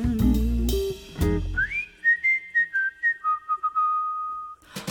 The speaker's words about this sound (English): I don't think you're handsome, 'cause if I really did, I'd whistle a little tune.